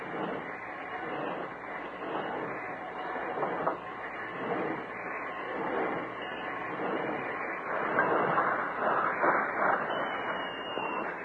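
A work train rumbles along a siding with a steady mechanical clatter and hiss as it rolls to a stop, continuous and growing slightly louder toward the end, with no voices.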